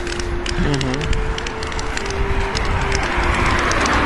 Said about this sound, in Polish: Słyszycie taki szum, między innymi taki terkot, to jest mój kijek właśnie.